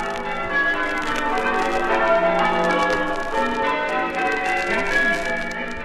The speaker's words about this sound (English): Eastbourne, where, as you've just heard, the campanologists are making the welkin ring